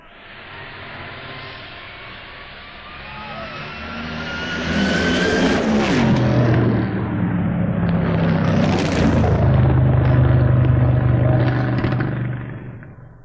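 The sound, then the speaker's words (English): Powerful Funny Car drag-racing engines of Ronnie Picardo and Dennis Priddle roar loudly in the final race of the first round, building from a rumbling idle to a thunderous, crackling blast that sweeps upward in pitch and holds for several seconds with no talking. “The final race in this first round of Funny Car is between Ronnie Picardo and Dennis Priddle, the winner to take on Gene Snow.”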